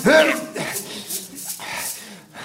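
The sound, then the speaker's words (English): Dogs howl and bark in a graveyard: a short, rising howl opens, followed by a run of rough, irregular barks. “Out of the graveyard and into some kind of park, leaving the howls behind.”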